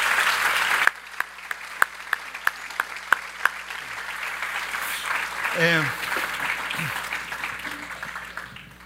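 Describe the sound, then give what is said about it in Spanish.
An audience breaks into sustained applause for mothers who opened their hearts, a dense wash of clapping that holds steady for several seconds while someone speaks over it. “Y yo quiero que le demos un fuerte aplauso a ellas por abrir el corazón.”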